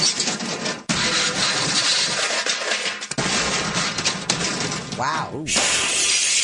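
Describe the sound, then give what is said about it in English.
Loud smashing and crumbling as a burglar breaks through the drywall of a vacant business next door into a gold exchange business in Riverside, California. A continuous barrage of crashing debris with brief pauses, and a short whining tone near the end. “He got into the business by smashing through the drywall of a vacant business next door.”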